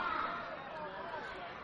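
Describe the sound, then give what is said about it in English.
Steady crowd murmur from home fans at a Kannapolis Cannonballers baseball game, a dense wash of overlapping chatter and babble from many spectators, fairly even in level with no single voice standing out. “Crowd still holding strong, creating plenty of home field atmosphere for the Kannapolis Cannonballers.”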